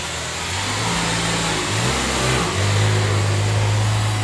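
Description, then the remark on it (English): A helium truck with a trailer about 40 feet long holding 12 high-pressure steel tubes runs nearby in a parking lot where balloons are being launched, its engine a steady low rumble, pitch rising and shifting slightly as it revs over a broad, noisy outdoor background. No one speaks. “Nearby is the helium truck.”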